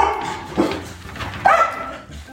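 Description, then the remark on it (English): Three dogs bark in short, sharp bursts, two loud yaps standing out over a busy background of softer barking and whining. “What are you guys barking at?”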